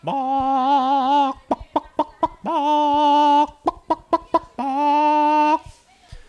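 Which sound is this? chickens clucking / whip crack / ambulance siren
chickens clucking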